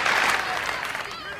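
Steady, dense applause from many hands, fairly loud, at a school student body president election, holding an even level before easing slightly toward the end.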